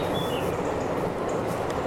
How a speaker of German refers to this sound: Ja, hallo U-Bahn.